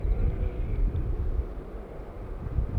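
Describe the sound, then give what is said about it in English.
Motorcycles pass by with a steady, low engine rumble that swells slightly and stays constant throughout, without any voices. “There's some motorcycles going past.”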